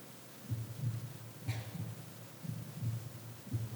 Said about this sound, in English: Every single one of them has this heart beating. It's more than just pumping blood and nutriments. It's the sign of life.